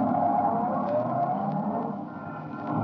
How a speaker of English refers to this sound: My cab is waiting. Won't you step in? All right, driver, to the little theater.